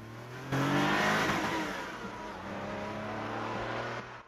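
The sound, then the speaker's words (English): A car engine roars into life at about half a second and pulls away, speeding along a leafy country road toward Norwich, revving up as it accelerates, then holding a steady, loud drone with a rising whine for several seconds. “Speeding along a leafy country road.”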